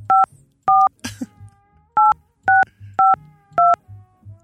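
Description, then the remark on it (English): A series of six short, bright keypad beeps as a made-up phone number is entered into a psychic phone line's automated menu, each a steady two-tone chirp, pressed at an uneven pace with brief pauses between them, plus a soft rustle or cough early on. “Please enter your phone number, starting with the area code.”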